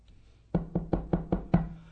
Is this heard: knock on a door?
yes